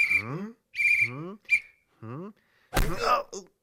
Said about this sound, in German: Das ist ein Vampir. Vampire sind aber wirklich unheimlich. Nur warum pfeift er so?